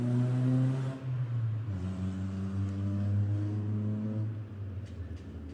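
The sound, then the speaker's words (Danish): A vehicle engine hums steadily with a low, tonal rumble, its pitch shifting as it revs, set against faint street ambience in Tingbjerg by bus stops where people wait for the bus, with a few light clicks near the end. “Der står folk ved busstoppestederne og venter på bussen.”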